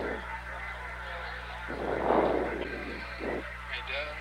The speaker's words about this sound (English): And as we can see on our television monitors, the helicopter is now proceeding toward the Yorktown.